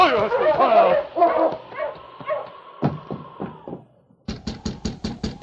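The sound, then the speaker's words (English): Half a dozen quick, evenly spaced knocks rap sharply on a wooden cabin door, Sergeant Preston knocking at the town doctor's cabin near midnight in winter, coming after a stretch of dog yips and whimpering with a faint whistling tone. “But the door opened almost at once in response to the sergeant's knock.”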